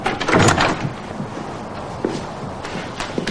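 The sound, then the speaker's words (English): A front door is pulled open with a fairly loud rustling, scraping burst as someone brushes in past, followed by a few soft, scattered steps or knocks. “As he opens the door, Ellen brushes in past him, huddled in her coat.”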